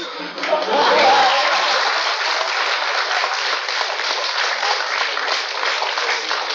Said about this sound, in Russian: Я считаю, что аплодисменты здесь совершенно неуместны. Абсолютно.